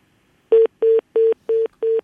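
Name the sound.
telephone tone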